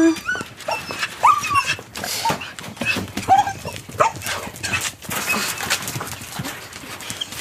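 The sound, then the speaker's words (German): Three dogs whimper and give short high whines amid scuffling and pattering movement, with a few brief yelps scattered through the busy, restless stretch and no one speaking. “Und zum Abschied dieses langen Tages kommen dann endlich auch die drei Hunde zu ihrem Recht”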